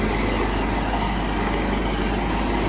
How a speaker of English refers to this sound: Oh, there's a lot of dust and stuff coming up from the crane, a lot of smoke and stuff because of its engine.